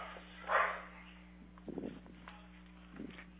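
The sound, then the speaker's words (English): A dog barks: one sharper bark, then a couple of softer, muffled ones a second or so apart, over a steady low hum. “Sorry, dog's barking.”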